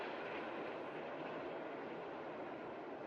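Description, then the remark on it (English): A steady, broad rumbling roar of an elevated train passing, holding an even, fairly loud level throughout with no voices. “Elsewhere, the elevated train rumbles by.”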